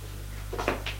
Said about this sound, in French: Elle ouvre la porte de sa chambre.